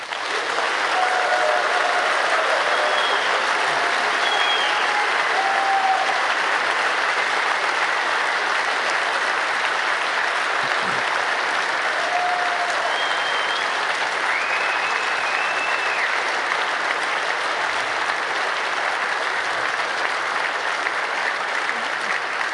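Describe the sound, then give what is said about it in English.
A crowd at the Congress applauds its 315 volunteer angels in sustained, dense applause for over twenty seconds, a steady loud roar of hands with no pauses and a few faint whistles or cheers rising through it. “We had 315 angels, and I want a really big round of applause for them.”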